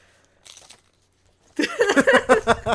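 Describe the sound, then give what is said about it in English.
Loud crunching as someone bites into crisp tortilla chips dipped in heavily salted salsa, with a soft rustle first, then a dense run of rapid, rhythmic crunches filling the second half. “And she crunches into it of like, yes, I like the salt.”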